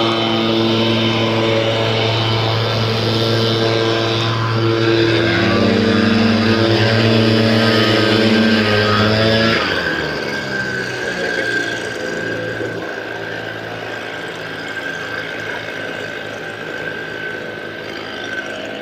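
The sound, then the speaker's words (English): Leaf blowers run steadily outside as men blow leaves, a loud motor whine with strong harmonic tones that holds for about ten seconds, then shifts pitch and eases slightly as one engine changes speed, continuing without any talking. “alright, I'm gonna let these guys blow their leaves. I'm not gonna try to yell over them.”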